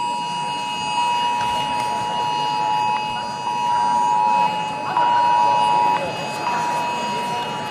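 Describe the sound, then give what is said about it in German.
A loud civil defense warning siren at the Bundestag in Germany, during a nationwide warning day, sounds continuously as a steady, high electronic tone that swells and steps in level about once a second, with faint background chatter beneath it. “Alarm heute auch im Bundestag.”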